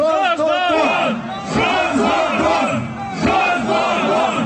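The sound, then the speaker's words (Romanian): A large crowd chants in unison at a unionist rally, including chants against Igor Dodon, many loud voices shouting rhythmic, drawn-out syllables in repeated waves over the whole stretch. “La meeting s-a scandat și împotriva lui Igor Dodon,”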